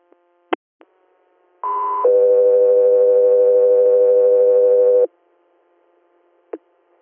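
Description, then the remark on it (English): Air medical dispatch radio alert tones for an interfacility patient transfer: a short, loud high tone steps down into a long, steady lower tone lasting about three seconds, framed by sharp radio clicks before and after. “Stand by for tones.”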